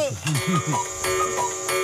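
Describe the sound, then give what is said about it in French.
A Swiss cuckoo clock calling, imitated by a voice: a quick series of four or five warbling, bleating hoots with sharp clicks between them, fairly loud. “j'avais oublié, c'est mon coucou suisse. Il refuse obstinément de se mettre à l'heure.”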